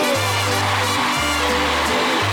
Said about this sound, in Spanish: Un aplauso fuerte, por favor. ¡Hasta el cielo!